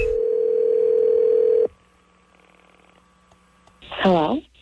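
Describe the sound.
A single steady ringback tone from an outgoing prank phone call to a former high school classmate about a reunion hums loudly for under two seconds, then cuts off to a quiet line before a brief voice answers.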